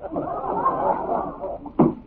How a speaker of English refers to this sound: Sound effect, it says auto door closes, you know.